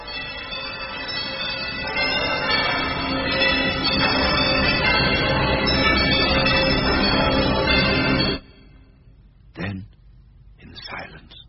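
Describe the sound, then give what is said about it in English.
Many bells of a huge, empty house clang and ring together in a loud, dense, sustained peal for about eight seconds, then cut off abruptly, followed by a couple of brief thuds or voice-like bursts. “But soon it rang out loudly, and so did every bell in that huge, empty house.”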